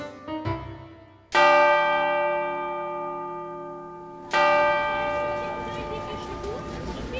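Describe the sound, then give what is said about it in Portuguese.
A church bell tolls twice, each heavy strike ringing out loud with a long shimmering decay that lingers until the next stroke, a few seconds apart. “é que quando ouço as badaladas do sino, saio correndo com o meu carrinho em direção da igreja.”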